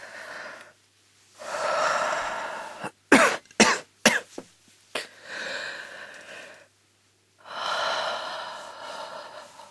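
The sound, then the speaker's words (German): A patient with a cold, being listened to by a doctor during an examination, draws several long, deep breaths in and pushes them out loudly, with a quick cluster of sharp coughs or gasps in the middle. No one speaks. “Atmen Sie bitte tief durch.”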